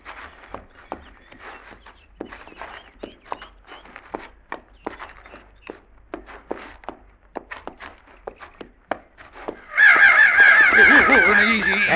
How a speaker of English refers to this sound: See what I mean? Yeah. They're sure big for crows. Sure are.